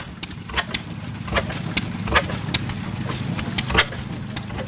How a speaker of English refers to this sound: This is an oil field engine. Come out of north central Oklahoma. Lynn from Winslow spent much of the Saturday morning portion of the show trying to keep an old oil field engine running properly. He says it was made in 1922 or 23.